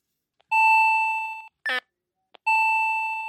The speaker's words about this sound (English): Alarm set for 12 a.m. Alarm 01. I'm just going to let the alarm go off and see if it even bothers getting to that point.